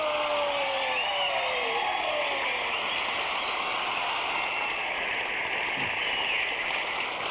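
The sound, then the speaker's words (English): A crowd applauds steadily for about seven seconds, a dense, even wash of clapping that holds at full strength, with faint whistles rising through it. “Would you give a big round of applause to my good friends and my strangers?”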